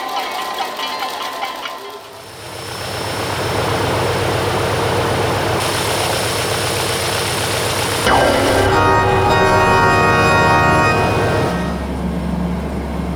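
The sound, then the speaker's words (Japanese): An airplane engine runs with a loud, steady droning roar, its tone shifting partway through and settling into a deeper hum, with no one speaking. “はいはい、早くしないと飛行機が出てしまいますよ。”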